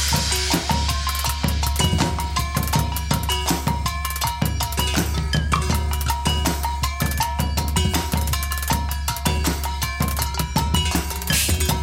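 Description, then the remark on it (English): Struck metal bowls filled with water ring out in a steady, loping percussion groove. Their bright metallic tones wobble and bend in pitch over a sustained low hum, with no voices. “Listen to how metal bowls filled with water help lay down a woozy groove.”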